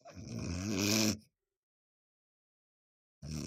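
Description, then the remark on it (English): A voice mimics snoring with a rough, rasping snore that lasts about a second, fairly loud, then two seconds of silence before a second snore begins. “Nothing pisses me off more when I'm trying to sleep and you're...”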